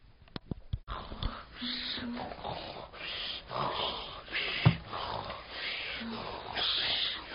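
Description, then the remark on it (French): Heavy, raspy snoring like a sleeping wolf, drawn-out rough breaths with snorting and wheezy edges, moderately loud, following a few short clicks at the start. “Il entend le loup ronfler.”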